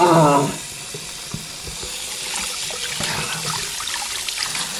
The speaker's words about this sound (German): Oh, das tut gut. Wasser so einfach aus dem Hahn.